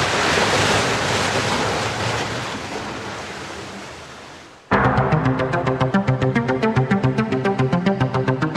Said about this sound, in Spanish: Mientras, las olas siguen castigando incesantes los roqueríos bajo el muelle de las almas.